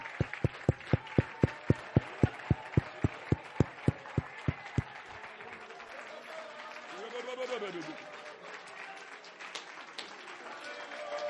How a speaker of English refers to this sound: Would somebody really clap your hands to Jesus? Would you shout unto the Lord?